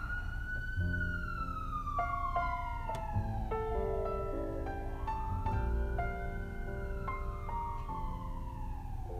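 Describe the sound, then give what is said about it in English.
An emergency vehicle siren wails outside in Los Angeles, its rising and falling tone sweeping steadily over a constant low traffic rumble, loud as it passes, with no voices. “Yeah, we have a lot of sirens here in LA.”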